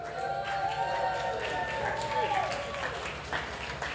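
Steady applause from an audience, a dense wash of clapping sustained throughout, with tonal background music or sound and some crowd noise mixed in.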